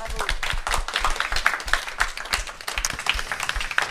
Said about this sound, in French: Alors, bon, on les a salués, on les a applaudis